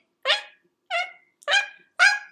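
Four short, high, yelping chirps from a cheetah, evenly spaced about half a second apart, clear, with silence between them; a contact call between mother and cub.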